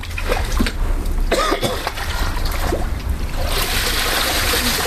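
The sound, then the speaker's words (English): Water trickles and drips steadily out of a soaked computer that had been thrown on concrete and submerged in a pool, a continuous splashy hiss dotted with small irregular plops, turning brighter and more rushing toward the end. No one speaks. “This is the water kind of dripping out of its computer.”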